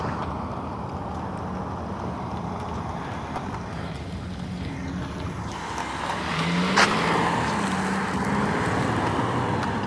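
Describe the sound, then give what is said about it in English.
Steady morning roadway traffic at going-to-work time rumbles continuously, with vehicles swooshing past and one louder car passing around the middle, its engine and tires briefly rising above the constant hum. “So much traffic.”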